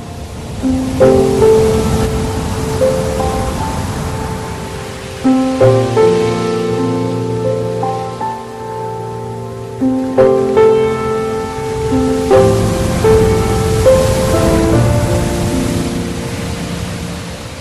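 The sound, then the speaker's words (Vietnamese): Steady rushing wind whooshing over the sea and surf noise roll beneath sustained, slowly shifting instrumental chords as night gives way to dawn, with no voices, filling the whole stretch at a fairly loud, even level. “Gió Organ vù vù trên biển, sông Akiminguin đuổi nhau trên biển, sao Embrayin rực rỡ lấp lánh ở cuối vòm trời đang sáng dần.”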